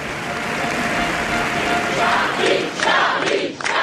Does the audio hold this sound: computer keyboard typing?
no